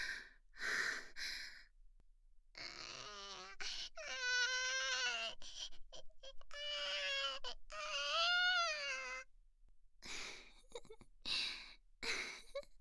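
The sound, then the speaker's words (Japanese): A newborn baby girl cries just after birth in high, wavering wails, two long drawn-out bursts in the middle, with breathy gasps and sighs before and after. No one speaks. “生まれたわ、私たちの赤ちゃん。”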